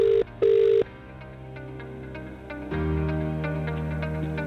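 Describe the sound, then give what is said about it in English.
An outgoing phone call to a contest winner: the ringing tone sounds as a quick double burst of steady electronic tone, followed by a softer, sustained humming drone that carries on to the end. No one speaks. “We're still ringing.”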